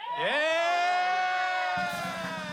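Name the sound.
crowd cheering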